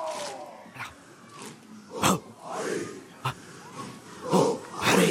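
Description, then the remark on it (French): Forceful, breathy exhalations voiced in loud, rough bursts by a bare-chested dancer in a banana-leaf costume during a ritual dance, punctuated by a few sharp hand claps at an uneven rhythm, made to the rhythm of a drum, with low rumbling vocal sounds between them. “Et là, il expulse le souffle dans un son, en claquant des mains au rythme du tambour.”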